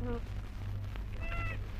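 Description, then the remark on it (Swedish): A talking doll's voice box, sounding when the doll is bent, gives two short, nasal, high-pitched 'mama' cries, one brief and one longer, separated by a pause, over a steady low hum. “Ja, men vet du vad den säger, den dockan, om man böjer den?”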